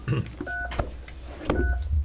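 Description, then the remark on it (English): Two short beeps from a phone keypad as a phone call is dialed during an Oregon legislative committee meeting, each a steady dual-pitched tone, spaced about a second apart, with low background rumble and faint murmuring around them. “Okay, I guess we have to make a phone call real quick.”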